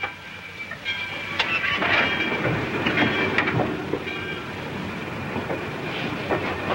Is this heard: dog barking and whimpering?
no